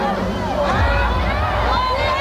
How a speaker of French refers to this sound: Minuit pile, explosion de joie sur les Champs-Élysées.